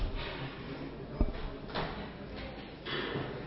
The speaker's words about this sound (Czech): Poprosím organizační, aby nám zavřelo dveře do sálu.